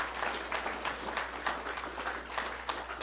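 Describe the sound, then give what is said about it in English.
A crowd applauds all the moms on Mother's Day, many hands clapping in a dense, continuous patter that holds an even loudness throughout, with no voices rising above it. “Can we give all of our moms a clapping? Applaud.”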